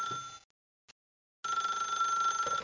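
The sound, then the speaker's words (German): A telephone rings in two bursts of steady, bright electronic tone separated by a silent gap, clear with no voices present. “Es vergehen einige Wochen, bis in den Weihnachtsferien wieder das Telefon klingelt.”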